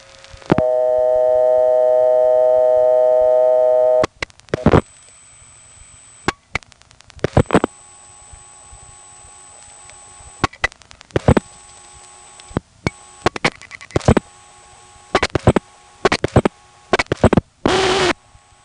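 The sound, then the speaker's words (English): A steady telephone dial tone gives way to irregular bursts of sharp mechanical clicks and clunks from a step-by-step exchange in Bradenton, Florida (GTE area) switching a call and testing for ground after the seventh digit, with a faint high whine behind and a noisy burst near the end. “Here's a regular step in Bradenton, Florida.”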